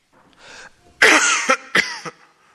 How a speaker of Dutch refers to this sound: Moeder begint te hoesten. Haar ogen vallen weer dicht. Ze is nog steeds heel ziek.